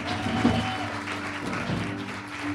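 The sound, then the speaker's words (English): Audience applause for the children: a steady wash of many hands clapping at an even, moderate loudness for a couple of seconds, with a faint tonal hum and scattered voices underneath. “Give it up for our children.”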